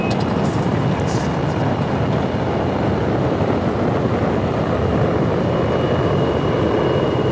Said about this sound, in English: We have main engine start. SRB ignition. We have liftoff. Tower has been cleared. All engines look good.